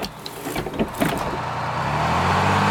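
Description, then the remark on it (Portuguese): A large vehicle idles as mechanical clunks and clicks sound, then a steady pneumatic hiss swells and holds: a bus pulling up at a stop and opening its doors. “Com sorte, depois de apenas alguns minutos, o ônibus chega, as portas se abrem e no caminho para a catraca, o dinheiro era separado e entregue diretamente nas mãos do cobrador.”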